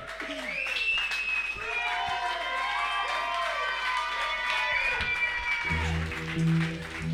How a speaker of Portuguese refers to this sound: Un aplauso aquí.